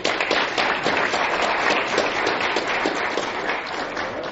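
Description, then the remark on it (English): A crowd at a school district meeting applauds steadily for retiring district staff, many hands clapping in a dense, even patter that holds at a fairly loud level for several seconds without anyone speaking. “We've had a round of applause for the retirement.”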